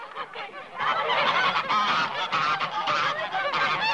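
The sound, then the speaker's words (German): A flock of geese cackles and honks in a dense, overlapping chorus, swelling after a brief quieter start and staying loud throughout, with no one speaking. “Fräulein Ulrike treibt ihre schnatternde Herde in den Stall”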